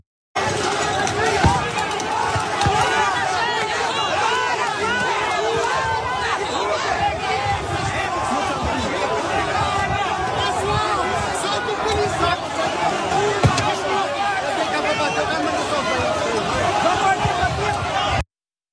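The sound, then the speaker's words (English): A rowdy crowd of rioters clashes with a mounted police officer trying to control it, attacking the horses and officers: constant loud shouting and overlapping voices, punctuated by sharp thuds and scuffling bursts, chaotic for the whole stretch. “Here is a mounted police officer trying to get a hold of the crowd, and watch what the crowd does.”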